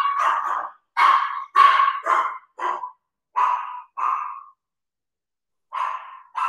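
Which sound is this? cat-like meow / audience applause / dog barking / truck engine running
dog barking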